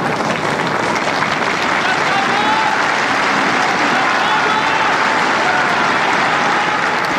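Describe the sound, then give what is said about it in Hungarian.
A large outdoor crowd of pilgrims in St. Peter's Square applauds the Pope's blessing steadily, a dense wash of clapping with faint cheers and murmuring voices mixed in, sustained at an even, loud level throughout. “A Szent Péter téren jelenlevő zarándokok tapssal köszönik meg a Szent Atya áldását, az ő szavait.”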